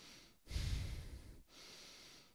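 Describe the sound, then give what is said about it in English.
Two loud, exaggerated breaths drawn in through the nose, the first stronger and airier, the second softer and longer, with no talking, demonstrating how a habitual mouth breather tries to breathe through the nose when going to bed. “Sometimes I go to bed and I try to breathe through my nose. I go like this.”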